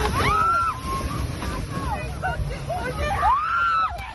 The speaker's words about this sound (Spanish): Este era el momento en el que una fuerte racha sorprendió a un grupo de jóvenes que estaban en la calle.